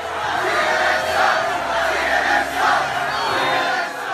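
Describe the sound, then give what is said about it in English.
A large crowd of Trump supporters, men, women and children, at a Trump rally in Tampa jeers and chants at CNN's Jim Acosta, screaming "CNN sucks!", in loud, continuous waves, the massed voices swelling and surging together in rhythmic pulses with no single voice standing out. “You've probably seen at least one of the tapes posted of an enraged crowd of Trump supporters, men, women, and their children at a Trump rally in Tampa, jeering at CNN's Jim Acosta, giving him the finger and screaming, "CNN sucks!"”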